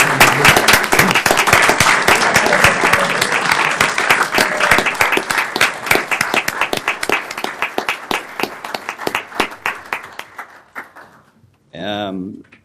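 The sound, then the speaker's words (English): A crowd applauds honorees who stand to receive recognition, in a dense, steady burst of clapping for about ten seconds, then it thins into scattered claps and fades. A voice begins speaking right at the end. “Give them a round of applause, folks.”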